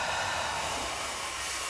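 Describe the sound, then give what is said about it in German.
A strong, forceful exhale during a guided breathing exercise: one steady breathy rush of air, fairly loud, lasting under two seconds, with no talking. “Und aus.”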